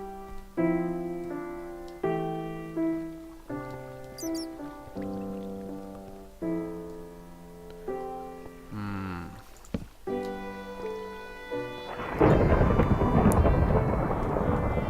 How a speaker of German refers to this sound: Jetzt gewittert sogar im Spiel.